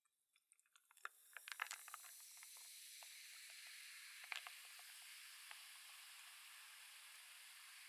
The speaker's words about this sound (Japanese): こうして炭酸のシュワシュワいっぱい出しておきますので、ご主人様はリラックスしていてくださいね。